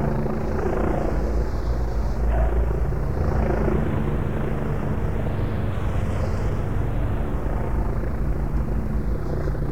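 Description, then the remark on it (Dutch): A helicopter hovers overhead above the Wetering circuit, where police are using water cannons, its rotor producing a steady, loud, throbbing drone with a slowly wavering whine above it, continuous throughout with no voices. “Is de helikopter nog steeds in de lucht.”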